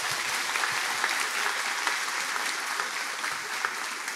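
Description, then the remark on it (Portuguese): An audience claps steadily for several seconds in applause to God, a dense, continuous wash of many hands with no voices rising above it and no break in the sound. “Vamos aplaudir ao nosso Deus.”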